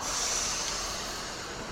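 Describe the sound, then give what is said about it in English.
A metro train pulling into a station, a loud, steady roar of rumbling noise topped by a thin high-pitched whine, with no voices. “Okay, here comes our train, guys.”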